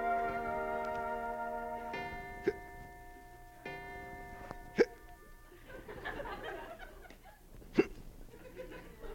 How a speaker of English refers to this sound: do you have the hiccups?